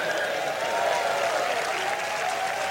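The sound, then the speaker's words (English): A studio audience applauds and cheers steadily, a dense wash of clapping hands with whoops mixed in, sustained at an even loudness throughout with no one speaking. “It's the same audience of cheering fucking cows who go, ooh, just whatever the next thing is fine.”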